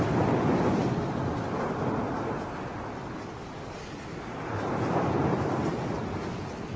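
A strong storm wind roars continuously, a dense rushing noise with a low rumble that swells, eases slightly, then builds again. No voices.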